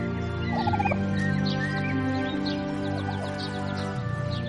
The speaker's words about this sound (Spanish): Tan solo un animal del Nuevo Mundo pone pie en Europa. El pavo.